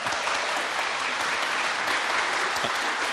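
A steady round of applause from a crowd for a guest on the Arena Culture Night special, dense and sustained clapping filling the whole stretch at an even loudness with no voices standing out.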